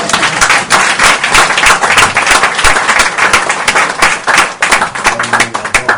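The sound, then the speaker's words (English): An audience claps together in loud, dense applause, many hands overlapping in a steady crackling roar that holds for the whole stretch, with faint voices mixed underneath. “I like that hand clap. You can do it again.”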